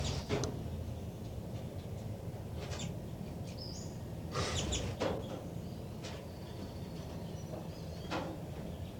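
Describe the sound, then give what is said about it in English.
Baby birds in a nest give a few faint, brief high-pitched chirps, scattered irregularly over a steady hiss, with occasional rustling bursts and no voices, recorded with the recorder pointed right at the nest. “Trying to get vocalizations of the baby birds.”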